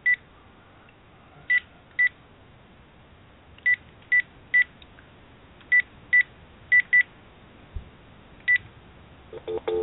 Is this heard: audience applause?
no